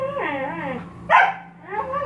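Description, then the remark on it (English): A dog named Friday barks and yowls while its owner is on the treadmill: drawn-out, wavering whiny cries, then one sharp, loud bark in the middle, followed by another rising whine. No one speaks. “Hey, knock it off, Friday, crying out loud. Knock it off.”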